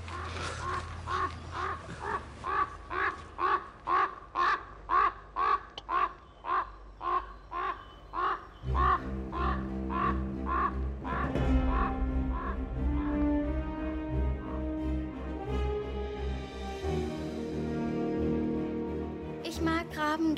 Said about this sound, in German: Habt ihr das gehört jetzt? Das ist. Das ist Singen bei Raben. So singen Raben.